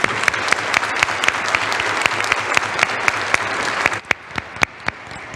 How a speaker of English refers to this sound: So all of that together means that we have helped share God's love and spread joy to more than 700 children and teenagers. And I think that that deserves a round of applause, don't you think?